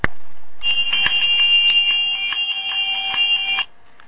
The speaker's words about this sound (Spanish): Entonces, voy a hacer sonar mi campana para comenzar.